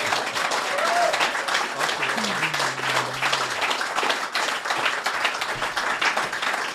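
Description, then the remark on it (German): A studio audience at the Käfigturm in Bern applauds steadily at the close of the show Bern einfach spezial, dense clapping filling the whole stretch at an even loudness, with a faint voice or whistle-like tone briefly rising underneath early on. “Jetzt müssen Sie alle wieder klatschen.”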